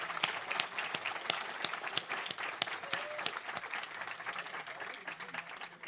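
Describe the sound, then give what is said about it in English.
A crowd applauds a team as a certificate is handed to the team captain, clapping steadily for several seconds. Dense overlapping claps form a sustained, fairly loud patter, with sharp individual hand claps standing out and no voices rising above it. “Congratulations, and one more round of applause.”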